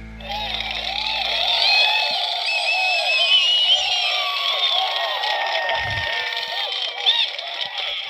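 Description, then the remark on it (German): Played-in recorded crowd cheering: a dense crowd cheering and shouting without pause, loud whoops and voices layered over a steady roar, with a brief low thump partway through. “Da hätte ich auch mein Haar fast vergessen, den Jubel einzuspielen.”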